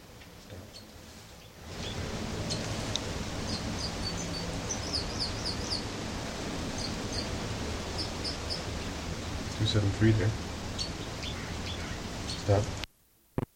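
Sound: bird song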